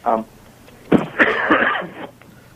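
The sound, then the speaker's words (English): A cough: a brief soft hack, then a sharp burst that trails into a harsh, rasping throat-clearing lasting about a second before fading out. “I got a little cough here, so I might, you know, if that happens once or twice, my apologies.”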